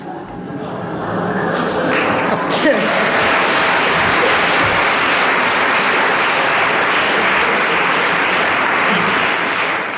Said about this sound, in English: Wait for the laugh, wait for the laugh, wait for the applause.